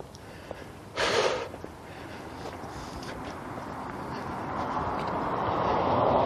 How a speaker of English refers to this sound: So I've kept a good pace today. After I got underway finally, I can tell because I'm panting.